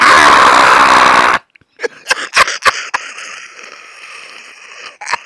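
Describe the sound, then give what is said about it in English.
A voice lets out a loud, harsh scream for just over a second, imitating a screaming marmot. It cuts off abruptly, followed by a few crackling, crunchy clicks and a faint hiss. “It's like that screaming marmot thing, dude.”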